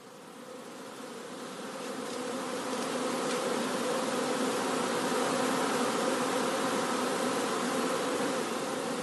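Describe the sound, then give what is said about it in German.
A dense, steady drone of many honeybees buzzing at a hive entrance as they fly in and out, swelling slightly in the first couple of seconds and then holding a continuous, busy hum with no voices. “Zwölf, die jetzt noch raus und rein gehen, aber es sind zum Teil fehlen auch Königinnen.”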